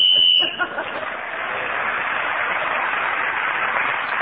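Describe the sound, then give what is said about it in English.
A short, shrill whistle blast of about half a second, loud and steady in pitch, ending a player's speaking turn in a game, cuts off and gives way to a sustained wash of audience applause. “So … speaking as a whistle away and gain that extra point”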